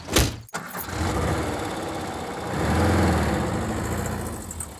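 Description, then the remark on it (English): A car engine idles with a steady, low rumble that swells briefly around the middle, following a short sharp burst of noise at the very start. No voices. “Get the fucking car then, nigga. Come on, nigga, let's go.”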